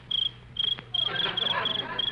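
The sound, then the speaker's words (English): A cricket chirps in the country at night in steady, repeated bursts of a high, thin trill, clear, with a faint low hum and a soft rustle underneath and no voices. “Just a little cricket.”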